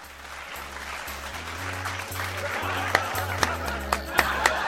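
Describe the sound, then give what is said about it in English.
A round of applause, a dense wash of clapping that builds gradually, with a few sharper individual claps popping out near the end over a steady low humming tone. “Do I get a round of applause? Yeah, give it to yourself, yeah.”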